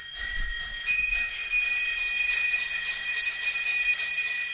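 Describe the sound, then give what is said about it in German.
Tandem bicycle bells ring together in a steady, bright metallic trill that keeps going without pause, fairly loud, with no one talking over them. “Diese Klingeln gehören zu Tandems.”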